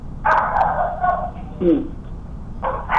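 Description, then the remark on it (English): A dog barks in a few loud, bursting volleys after someone rings the doorbell, with a brief whining yelp between them, set against a low background hum. “The dog likes the 30th.”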